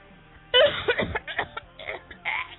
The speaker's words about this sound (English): That was my smoker cough from this. That was kind of nasty, actually.